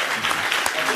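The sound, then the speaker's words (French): An audience claps together for performers after an improvised comedy scene, in a dense, steady wash of applause, many hands overlapping with no individual claps standing out, holding an even loudness from start to finish. “On peut les applaudir.”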